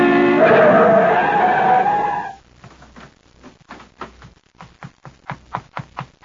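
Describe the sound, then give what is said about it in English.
A car on a highway brakes hard to avoid a person pushed into the road, with a loud, sustained tire screech lasting about two seconds, followed by a series of quick, sharp clicks and taps as it comes to rest. “In the middle of the highway, I waited for a car to go by, but as it approached”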